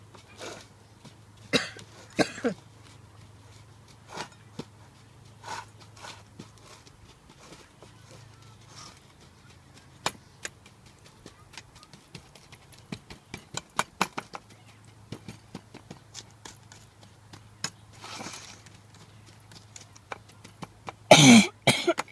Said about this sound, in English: Excuse me for my cough. And I think that pollen is out and it just gives me that tickle in my throat.